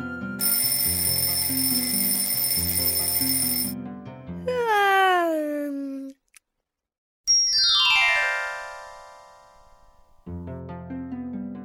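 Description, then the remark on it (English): An alarm clock rings loudly and steadily for a few seconds, then a whistling tone slides downward, followed by a brief silence and a bright bell-like chime that slowly fades. “When the sun rose, his nightlight would turn off and his alarm would ring.”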